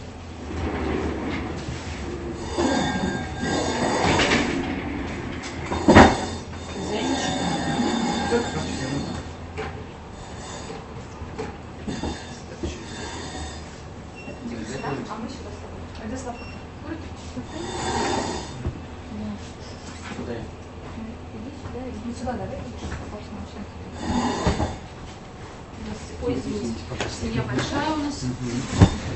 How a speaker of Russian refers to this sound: Так, нам, наверное, с вами... лучше сюда и... Сдвинуть как-то... столы? Да. Присаживайтесь, наверное, сюда и сейчас стулья поставим.